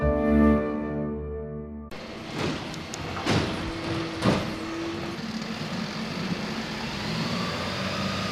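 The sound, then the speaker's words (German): A short musical passage cuts off, then a garbage truck rumbles, with loud clanks and thumps and a steady hydraulic whine rising over the engine noise. “Mit dem Müllauto.”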